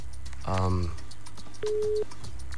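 Telephone line tones: a short buzzy burst, then a clean, steady electronic beep lasting under half a second, with faint clicks and background noise around them.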